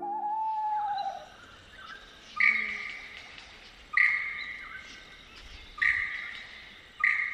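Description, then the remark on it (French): A lyrebird's natural call: a sliding whistle, then four loud, ringing notes repeated at steady intervals of about one and a half seconds, each fading away, with no talking. “Ce que l'on entend ici, c'est le logiciel de base de l'oiseau lyre, sa voix originelle.”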